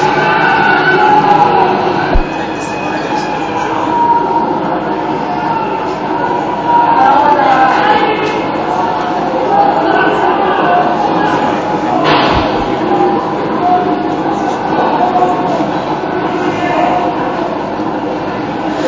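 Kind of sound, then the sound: crowd, people screaming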